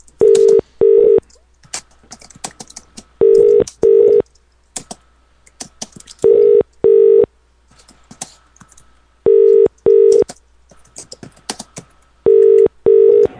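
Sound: telephone dialing and ringing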